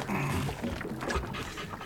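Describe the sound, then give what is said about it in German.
A dog named Timmy pants rapidly and steadily by a boat, quick breathy huffs repeating in a continuous rhythm with no talking. “Das ist mein Hund Timmy.”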